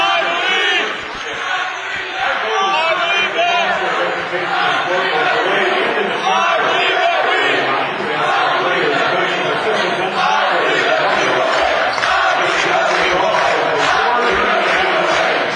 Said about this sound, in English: The Dort College fans are here in force again this weekend. Bigger crowd than yesterday as we gained a few people who drove up from Northwest Iowa, Southwest Minnesota, and Southeast South Dakota for today's contest.